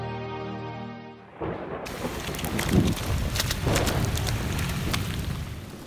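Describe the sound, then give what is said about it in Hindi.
A short sustained musical tone gives way to a steady roar of heavy rain driven by gusting wind, with scattered crackles and a brief low rumble partway through. “माँ, माँ, दरवाजा जल्दी खोलो, हम बारिश में पूरी तरह भीग गए हैं, जल्दी आओ।”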